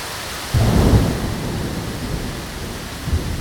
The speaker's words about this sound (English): This week, Rain and Thunder open an episode about the recurrence in 2020 of a record-breaking rainy year in Virginia.